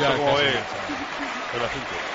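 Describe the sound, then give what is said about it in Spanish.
A crowd applauds at a tennis match between Rafa Nadal, seeking his eighth title, and David Ferrer, a dense burst of clapping that is loudest at the start and then thins, while a man's voice talks over it. “No sé si aplauden ahora a Rafa Nadal en busca de su octavo o a David Ferrer para que se siga agarrando al partido.”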